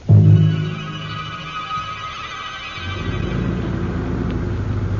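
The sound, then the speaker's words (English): A car engine rumbles, starting with a heavy low burst, then settling into a steady, deep drone that swells again and holds through the end, with no one speaking. “Captain, bring my car.”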